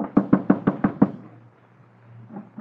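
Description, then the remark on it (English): Six quick, evenly spaced knocks on the wooden door of a rabbi's house, fairly loud, followed by a low hum and quiet room tone. “waited until the rabbi returned to his house, and then he knocked on the door.”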